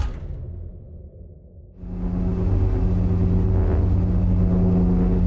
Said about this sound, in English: Within a few seconds, the ship resonated with a deep humming sound.